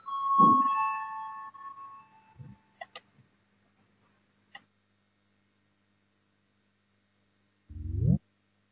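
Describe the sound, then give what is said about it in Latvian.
A parliamentary voting bell rings loudly for about a second and a half with a steady, buzzing tone, calling members to vote on a proposal, then fades into a few scattered clicks and a short rising sound near the end. No one speaks. “Lūdzu, zvanu balsosim par pirmo deputātu Sločmanas priekšlikumu.”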